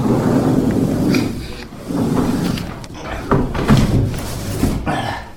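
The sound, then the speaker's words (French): A heavy stainless-steel observatory dome weighing over 800 kilograms being shut with effort from up at the top: a loud, sustained metallic grinding and scraping broken by several clanks and bumps, with a faint voice now and then. “Alors, avant de partir, on va remonter une dernière fois là-haut dans le cimier pour tout fermer.”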